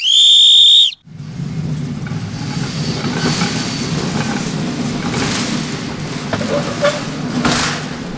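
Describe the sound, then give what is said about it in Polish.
A single loud, shrill whistle blast signals a group of rail bikes (bicycle draisines) to start. It lasts about a second, then cuts off into a steady low rumble of movement with occasional faint clatter. “I tak, będziemy na jeden gwizdek ruszać, na trzy gwizdki się zatrzymywać.”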